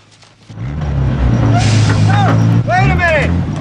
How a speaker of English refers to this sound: The garbage truck reverses towards him and stops.